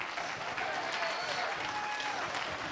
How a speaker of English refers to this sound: That's real tepid. There's only five of you clapping, and there's only about 20 of you get your hands.